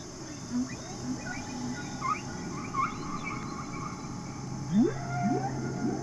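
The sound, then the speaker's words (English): Whale calls from Henry the Hudson Whale: a series of short tonal moans and rising, swooping whistles repeat irregularly over a steady low hum and hiss, with a brighter upsweeping pair near the end. “Each week we're joined by Henry the Hudson Whale.”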